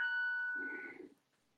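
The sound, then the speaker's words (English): A Christmas clock, a Christmas decoration that chimes a different Christmas song each hour, rings a bright, sustained bell-like electronic note that holds steady, briefly joined by softer, lower tones before fading out within about a second and a half. “One of my wife's Christmas decorations is a Christmas clock and chimes a different Christmas song each hour.”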